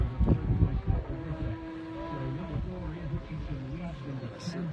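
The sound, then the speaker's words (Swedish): A motorcycle engine drones steadily at a distance as it approaches, its pitch wavering slightly as it runs, with faint voices murmuring underneath. “Ljudet på avstånd igen att närmar sig.”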